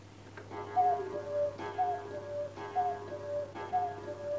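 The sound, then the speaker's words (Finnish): A clock strikes ten, its resonant chimes repeating steadily about once a second over a faint low hum, with no voices. “Kello lyö jo kympäntää.”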